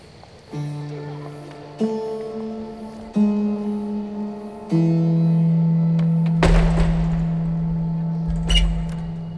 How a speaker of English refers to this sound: I'm always glad to see the last party of the day through this old door and drop the latch on them.